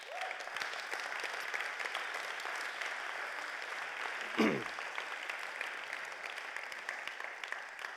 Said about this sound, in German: Und ich will einfach jetzt mal Danke sagen für alle, die das machen, die sich hier zur Verfügung stellen und Mut machen, das weiter zu tun. Es ist eine super Sache. Wir können einfach mal klatschen für die Leute.